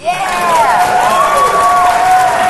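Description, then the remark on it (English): A live crowd breaks into steady applause, clapping to show they like sea pandas, with loud cheering and shrill whoops riding over the clapping, sustained throughout without letting up. “Clap if you like sea pandas.”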